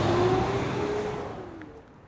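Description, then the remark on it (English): A car rushes by on a road, its engine tone dipping slightly as the broad road roar fades away over a couple of seconds, with no voices. “you could have gotten us smeared by that car.”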